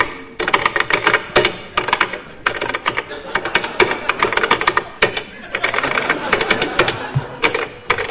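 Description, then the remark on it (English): Fast, continuous typing on a keyboard, with dense clattering keystrokes in quick bursts and brief pauses, fairly loud with no talking; text from a novel being typed out for listeners to identify. “will tap out something for you to identify on a different keyboard.”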